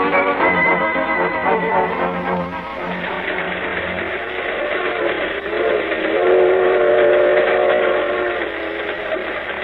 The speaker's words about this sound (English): When's this here freight train get to Des Moines? This is a highball freight, kid. She's been hitting high iron ever since we jumped aboard at Kansas City. We're in the outskirts of Des Moines now.